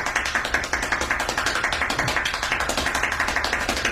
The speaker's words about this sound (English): Here's him clapping for real. Okay. Now we're going to go for feeling pretty good. I think we'll go for 14 claps per second. 14 claps per second.